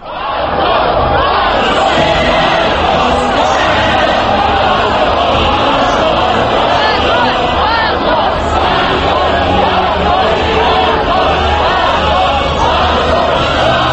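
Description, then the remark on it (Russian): The Russian national anthem, played through loudspeakers at a neighbouring pro-Kremlin youth movement rally, sounds beneath a dense, roaring crowd of demonstrators on Triumfalnaya Square in Moscow. Their shouts and chants stay loud and unbroken for the full fourteen seconds. “Гимн России под крики демонстрантов на Триумфальной площади в Москве, вероятно, одна из самых красочных картинок этих событий.”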